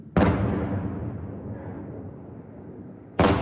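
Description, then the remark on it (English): Two loud explosions as Shahed explosive drones are shot down by air defense systems above Kyiv before daylight: a sharp blast rolls into a long, low rumbling decay lasting about three seconds, then a second blast bursts in just before the end. No voices. “Before daylight, the buzzing of drones can be heard above the city, followed by loud explosions as they were taken down by air defense systems.”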